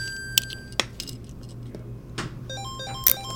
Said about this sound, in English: After about 7 minutes, the machine beeps like I've just leveled up in an 80s arcade game.